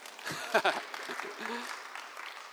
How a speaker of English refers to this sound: Let's applaud the guy who lit a candle. Hooray.